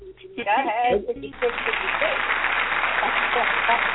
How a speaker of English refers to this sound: Hand clap.